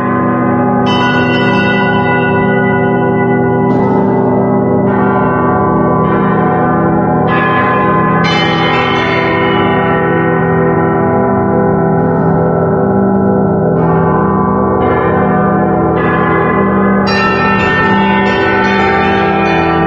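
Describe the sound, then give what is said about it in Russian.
A large bell made of a bell-bronze alloy rings repeatedly in a steady sequence of struck tones, each strike blooming into a rich, sustained hum that overlaps the next, loud with no voices. “Это близкий к колокольному металлу, несколько другого состава, но его можно назвать колокольной бронзой.”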